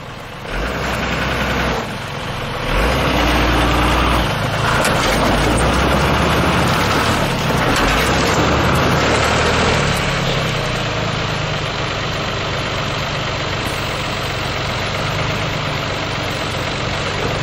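An engine starts up, running rough and uneven for several seconds before settling into a loud, steady idle with a low rumble that continues to the end.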